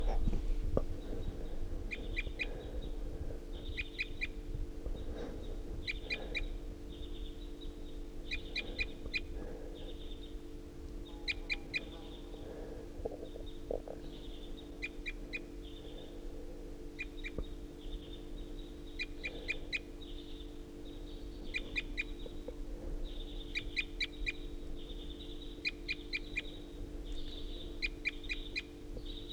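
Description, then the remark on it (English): A wild bird perched on top of a tall ponderosa pine calls over and over from up high, bright chirping bursts repeating every second or two, with other faint calls mixed in over a steady low background hum. “recording at 7:31, and this is a wild bird perched up on the top of a tall ponderosa pine.”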